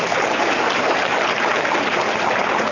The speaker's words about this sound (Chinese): 鼓掌呀！